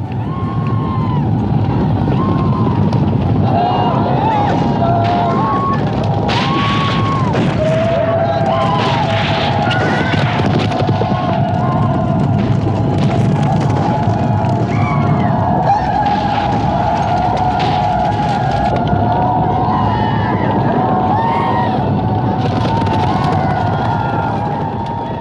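A loud, unbroken roar from a film scene with hundreds of extras on horseback and camelback, shouts and cries blending into a dense wash of noise, with wavering higher calls weaving through it for the whole stretch.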